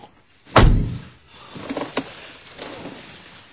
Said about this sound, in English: will you shut the damn door?